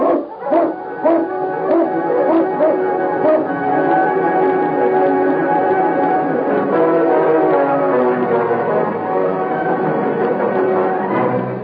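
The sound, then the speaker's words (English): A pack of husky sled dogs in a Mountie's team, led by the dog King, barks and howls excitedly together as they are urged on along the trail, a dense, continuous chorus of overlapping yips and yelps, loud, with no talking. “Get the dogs up, King. On, King! On, you husky!”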